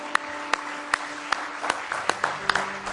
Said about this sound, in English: Let's give him a good hand clap of praise tonight if you love him.